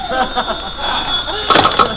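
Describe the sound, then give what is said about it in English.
A telephone rings with a bright, rattling bell burst toward the end, preceded by warbling, sweeping tones over a thin, steady high-pitched whine. “Suddenly my phone rings.”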